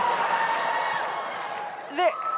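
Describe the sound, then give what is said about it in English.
An audience cheers at the mention of yellow fever in a steady, dense roar of many voices for a couple of seconds, with one sharp rising whoop cutting through near the end. “Finally, something got a louder cheer than Sydney, and it's yellow fever.”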